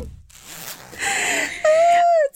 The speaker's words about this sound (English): Oh, I unzipped my hoodie. Could y'all hear that? It sounded like a toot. It sounded like you tooted. It wasn't a toot. It sounded like a toot. Zipper.